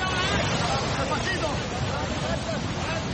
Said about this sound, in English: This is the dramatic scene when migrants were pulled from the water after the boat capsized just off the Canary Islands on Tuesday. The emergency services said 35 migrants, including women and children, had been on board.